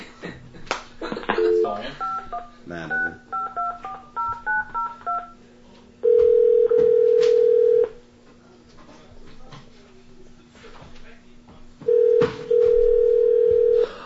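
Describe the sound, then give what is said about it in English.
A quick run of touch-tone beeps as a phone number is dialed, followed by two long, steady ringing tones separated by a pause. A voice speaks briefly near the start. “No, I'll call you right now. You want me to call your cell phone or what?”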